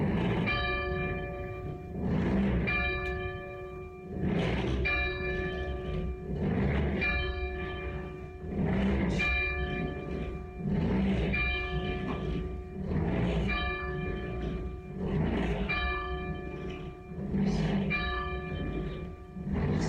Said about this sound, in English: Tolls of the bell for 400,000 deaths from COVID in the United States.